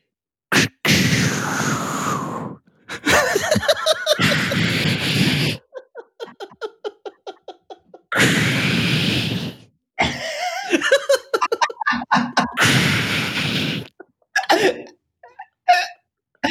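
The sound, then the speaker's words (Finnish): A voice imitates a bird's lekking display: four loud, breathy hissing whooshes, each about two seconds long, alternating with quicker stretches of clicking, sputtering sounds. “Mimmonen sen soidin ääni on? Se on semmoinen suhautteleva, semmoinen.”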